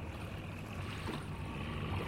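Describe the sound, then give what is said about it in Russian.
A diesel engine drones steadily at low pitch, pushing a boat toward Russky Island, while water rustles and washes around the hull; a continuous, fairly loud rumble with no voices. “Был только слышен звук дизеля, который работал и толкал на сторону Русского острова, и только шелест воды.”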